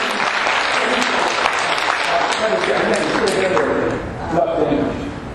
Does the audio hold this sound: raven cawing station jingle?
no